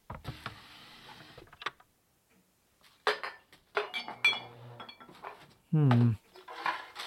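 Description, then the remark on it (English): Someone rummages through a cluttered kitchen 'everything drawer' looking for a screwdriver: metal utensils and odds and ends clink and rattle in irregular bursts, with pauses between, then a brief low scraping groan and more clattering. “I think I remember seeing a screwdriver in the everything drawer.”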